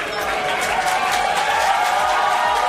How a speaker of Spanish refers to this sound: Ovación, porque ellas se lo merecen.